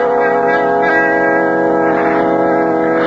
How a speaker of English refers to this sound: That is the bell, Conseil.